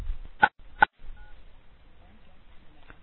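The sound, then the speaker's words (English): Two short, distinct telephone keypad tones beep in quick succession as phone lines are opened for callers, followed by quiet background hiss and a faint third blip near the end. No one speaks. “Let me get the phone lines open.”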